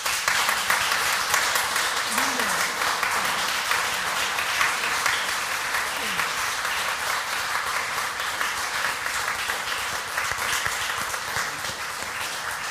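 Steady applause from an audience fills the space, a dense wash of many hands clapping at an even level for about twelve seconds, with faint voices murmuring underneath.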